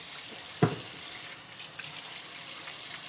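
Steady running water from a faucet splashes, a continuous bright hiss with a brief clunk near the start, as a person washes their hands under a sink tap in an apartment.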